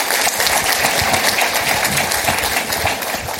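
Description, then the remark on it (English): An event audience applauds its sponsors, including Uber, B of A Securities, Oppenheimer and Company, United Airlines and the William Everett Group: a dense wash of many hands clapping at an even, loud level throughout with no voices standing out. “Please give all those folks a round of applause because it is appreciated.”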